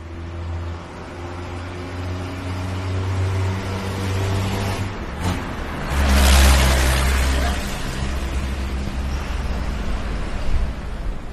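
Low, rumbling engine noise from heavy trucks in an industrial area of Kempton Park, east of Johannesburg, fills the scene, swelling as a loud one passes by midway, with steady traffic drone and a faint voice in the background.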